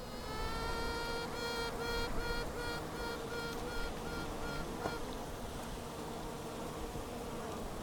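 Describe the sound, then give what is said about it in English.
A small bee buzzes steadily for several seconds, its droning hum wavering slightly in pitch, with no voices and a soft outdoor background. “Norfolk Wildlife Trust Ambassador Nick Aitchison sees hope for the natural world in a small bee.”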